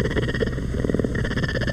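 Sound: puma purring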